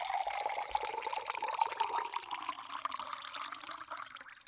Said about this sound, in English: It's now time for adding hot water to the teapot.